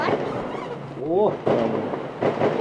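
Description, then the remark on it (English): A volley of gunfire rolls and echoes across a valley near the mountain village of Kuşköy in Turkey's Black Sea region, in several deep, booming bursts with long rumbling tails, and a brief rising voice cuts in between them. “A volley of gunfire echoes from across the valley, and as our hosts tell us not to worry, they exchange glances that suggest there may be more to come.”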